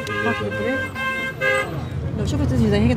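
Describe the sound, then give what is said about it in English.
Car horns honk repeatedly in busy street traffic in Gaza, several steady toots overlapping one another, with voices talking amid the rumble of the road. “She signals a lot, but unlike other drivers, she doesn't honk that much.”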